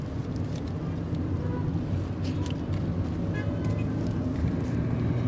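A steady, low engine rumble fills the inside of a car, constant and fairly loud, with faint muffled traffic sounds and occasional light clicks drifting over the drone.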